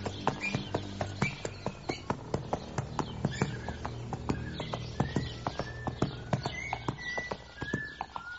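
Steady clip-clop of horse hooves as a rider mounts and rides off home, evenly paced, continuing throughout, with faint bird chirps scattered in the background.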